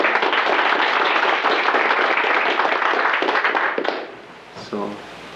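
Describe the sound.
An audience breaks into a round of applause for three people who shared their journals, a dense, loud wash of many hands clapping for about four seconds before it quickly dies away and a voice briefly begins.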